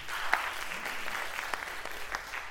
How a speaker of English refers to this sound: That's the thing we get applause for.